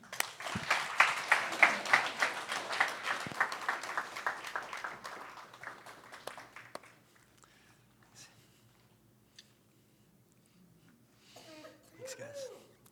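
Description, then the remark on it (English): A crowd bursts into loud, steady applause mixed with cheering, which gradually fades over about seven seconds into near silence before a voice briefly murmurs at the end. “Yeah, you can cheer again if you want.”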